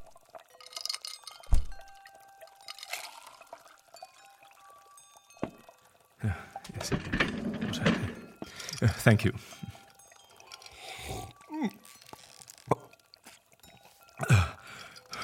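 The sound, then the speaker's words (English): Water pours into a glass with a gurgling, splashing fill and a couple of light clinks of glass, while a voice speaks briefly. “Could I please have a glass of water instead?”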